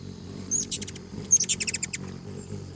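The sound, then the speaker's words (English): Hummingbird chirps: two quick bursts of high, thin, rapid twittering notes with a short pause between them, heard over a soft low background rumble. “Have you ever watched a hummingbird hovering as it sips from blossoms filled with nectar?”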